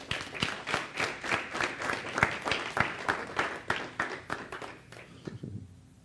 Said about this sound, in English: Amen. Clap your hands.